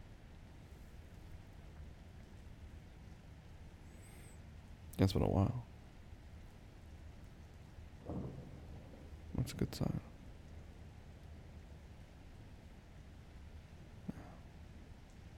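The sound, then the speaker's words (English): Steady, soft rain from a storm hisses throughout, fairly light and even and getting lighter, while a few people speak briefly in short bursts over it. “Sounds like the rain's getting lighter too.”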